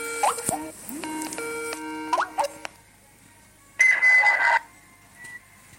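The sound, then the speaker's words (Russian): A phone rings with a loud electronic ringtone: a quick run of melodic beeps and tones, a pause, then a brief buzzing burst. No one speaks. “А, вот он сам звонит, гандон.”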